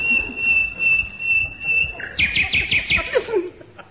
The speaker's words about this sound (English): An English bird in full-throated cry. Oh, a part of England's treasured heritage. Where is the dear bird? Ah, I see him.